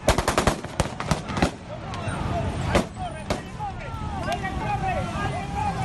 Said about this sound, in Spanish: Se han escuchado hace algunos minutos disparos en las calles de Caracas.